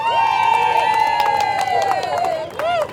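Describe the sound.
A crowd claps and cheers for about three seconds for a young woman who has just had her turn in a competition, with sharp claps breaking through steady, high whoops and sustained shouting voices that dip slightly in pitch near the end.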